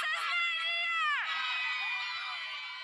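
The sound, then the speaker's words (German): A woman at a protest in Belarus screams loudly and shrilly that he is unconscious while filming security forces beating a demonstrator, her voice rising and then dropping in a long, desperate wail, with a crowd's commotion faintly underneath. “Er ist ohnmächtig, schreit eine Frau, während sie Sicherheitskräfte dabei filmt, wie sie auf einen Demonstranten einprügeln.”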